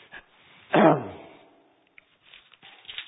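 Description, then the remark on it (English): One loud, harsh cough bursts out during a reading aloud of the Bible, Matthew chapter 2, and fades quickly, followed by near silence with a few faint clicks and rustles. “I coughed myself back to Malachi, so let me get back to Matthew 2.”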